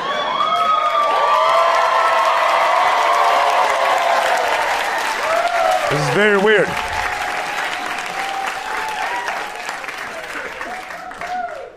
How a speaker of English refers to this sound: Hey. What are y'all doing? Are y'all clapping? Oh, because she got back from the restroom or something? Why would y'all do that? That was weird. All right, welcome back, I guess. Is it like a Burbank thing? Why would y'all start clapping?